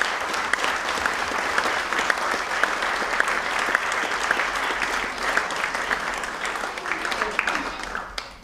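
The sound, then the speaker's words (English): Sustained applause from an audience thanking everybody who helped this week, a dense steady patter of many hands clapping for several seconds, with scattered cheers and whoops rising above it. “And therefore, rather than spoiling the flow later, give everybody who's helped this week an enormous thank you clap, and you can make noises as well.”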